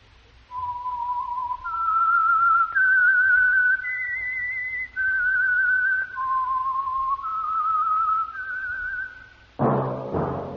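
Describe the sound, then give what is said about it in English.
A slow whistled melody, the theme whistle of The Whistler on the Signal Oil Program, of long, sustained notes, gliding up and down with a slight vibrato. The clear whistling plays alone and is cut off by a brief burst of noise at the end. “That whistle is your signal for the Signal Oil Program, the Whistler.”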